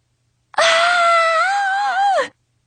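A single loud, sustained scream from one person, holding a strained pitch for nearly two seconds before breaking off with a slight downward waver at the end.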